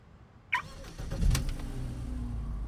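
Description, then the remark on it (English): A self-driving car's engine cranks and catches after a short click, then settles into a steady low rumble as the vehicle idles and begins to drive off. “Not when the car drives itself.”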